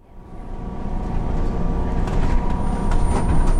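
Steady low rumble inside a moving city bus on a commute to work, engine drone building slightly, with faint rattles and high hisses scattered over the continuous hum; no voices.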